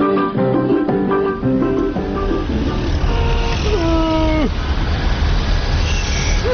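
An old car drives with a steady rattling engine rumble throughout, while honking, moo-like tones sound over it in short bursts and drawn-out sliding notes.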